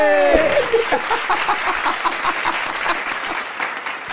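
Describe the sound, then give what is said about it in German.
A brief rising tone opens, then steady applause follows: dense, rapid clapping at a fairly even loudness that continues to the end, with no voices over it. “Und ja, da ist ein Applaus!”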